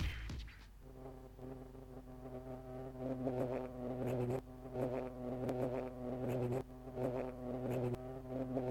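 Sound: bee buzzing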